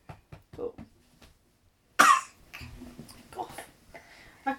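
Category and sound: human body sound, cough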